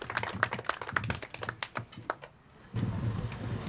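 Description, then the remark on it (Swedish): A group claps in dense, quick bursts of applause for Anita Mattsson, chair of the Tyresö municipal executive board, that thins out and fades after a couple of seconds, followed by a low, steady room rustle. “Hon kan väl också få en applåd också.”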